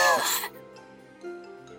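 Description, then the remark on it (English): A short, harsh cough bursts out, voiced like a woman's, then fades into quiet low room sound with a faint murmur afterward; it sounds like a performed imitation of Snow White coughing as the piece of poisoned apple stuck in her throat falls out, in a telling of the Snow White story. “The piece of poisoned apple that was stuck in Snow White's throat fell out, and she began to cough.”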